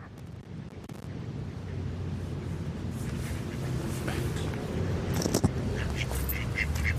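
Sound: ducks quacking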